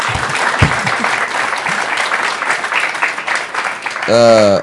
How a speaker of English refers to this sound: Can you give them a hand clap if you can?